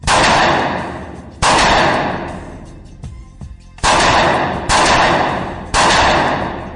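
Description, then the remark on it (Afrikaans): Five sharp handgun shots fired at a target 15 meters away in a handgun challenge, two aimed as head shots and three as chest shots; each a loud crack with a long echoing decay, spaced unevenly over several seconds, with no talking. “Die handwapen challenge is op 15 meter. 2 kopskote wees op die teiken en 3 borskote.”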